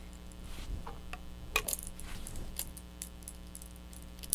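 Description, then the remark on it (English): A bunch of keys shaken as a young child plays with them, jangling and clinking in scattered bursts, fairly quiet, with sharp metallic taps at irregular intervals over a low steady background hum. “Do you want to play with the keys?”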